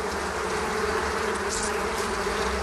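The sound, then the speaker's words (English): A dense, steady drone of many honeybees buzzing together, kept by urban beekeepers in Berlin, Germany, fairly loud, a continuous swarm hum with no pauses and no voices. “Yet with more than 500 beekeepers in the German capital, there's never a swarm too far away.”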